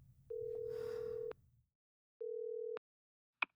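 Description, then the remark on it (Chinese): A mobile phone call that won't get through: two steady electronic beeps at one pitch, a long one then a shorter one, with faint rumble under the first and a sharp click at the end. “果然打不通，对吧？既然手机打不通”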